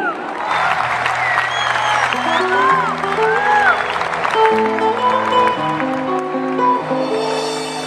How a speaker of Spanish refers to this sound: esta ganadora del certamen para los nuevos valores, Pre-Cosquín en el rubro solista vocal femenino. Con fuerza y con ganas, el aplauso